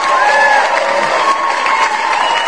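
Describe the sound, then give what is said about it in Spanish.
A crowd cheering sound effect played as applause for Cristian, who paid off all his credit card debts: a dense wash of applause-like noise with bright high-pitched shouts rising over it, loud and steady throughout the short burst with no one speaking. “Un aplauso por Cristian a través de Twitter, que ya liquidó sus deudas.”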